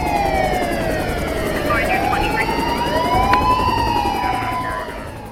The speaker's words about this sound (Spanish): Las sirenas aturden y los helicópteros se enfocan como si de pronto el día se hubiera hecho en la noche.